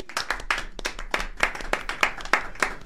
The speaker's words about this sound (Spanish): Le damos el aplauso.